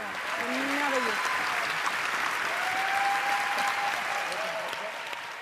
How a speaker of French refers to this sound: Berlin applaudit le cinéma